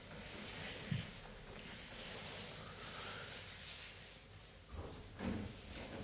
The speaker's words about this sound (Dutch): Oh, de deur is op slot, maar dan is het goed om hem even open te doen. Laat maar open.